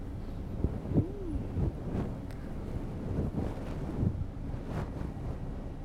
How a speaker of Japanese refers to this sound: はーい、お疲れ様。タオルで泡を拭いていくからじっとしてなさい。